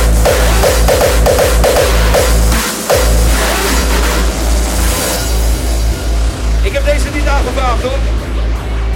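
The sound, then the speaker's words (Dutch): A Dodge V8 car engine revs loudly, a deep throbbing rumble with rhythmic pulses that surges and settles over several seconds, with voices faintly mixed underneath. “Het was die man met die Dodge. Mannen met een grote auto. En 8 cilinders.”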